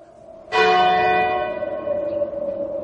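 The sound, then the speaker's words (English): A single loud church bell strike rings one o'clock, just after lunch, its bright metallic partials humming and slowly fading over a few seconds with no other sounds around it. “When the bell struck one, just after lunch.”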